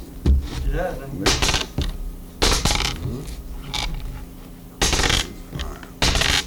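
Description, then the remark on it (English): Dice tumble and clatter on a rug during a dice game, in several short bursts of rattling separated by brief pauses, with faint voices murmuring in the background. “Shooting dice. We got a dice game on. On the rug, we can pick them up there.”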